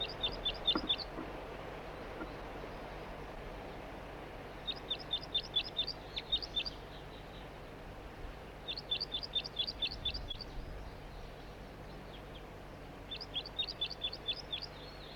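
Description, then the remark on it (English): A juvenile bird, not a red male and apparently unbanded, perched in a tree and recorded from right underneath it, calls in four separate bursts of rapid, high chirping notes, each lasting about a second and spaced a few seconds apart, over a low steady background hum. No one speaks. “It's recording the same bird. It's not a red male. A juvenile.”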